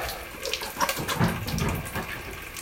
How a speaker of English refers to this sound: So now I'm going to go and wash my hands. But because it's so cold today, all of the water had frozen, so I don't know if there's any running water, but I'll go and have a look. Yes, running water.